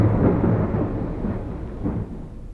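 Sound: thunderstorm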